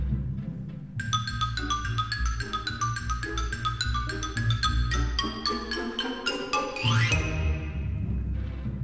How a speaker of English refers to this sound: The side drum and Chinese block. The xylophone.